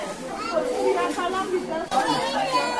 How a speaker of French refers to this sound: Dans le hall du centre de santé de Bédé, des mamans font la queue avec leurs enfants. Assises sur des banquettes, elles sont toutes impatientes car chacune veut faire vacciner son enfant avant la fin de la campagne.